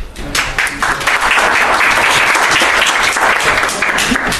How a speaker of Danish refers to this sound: Skal vi give Adam Johansen også selv en klapsalve?